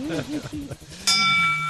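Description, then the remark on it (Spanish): Talking voices give way to a single bright bell strike that rings out loudly and sustains with a shimmering, slowly fading tone. “sálvame, toca la campana.”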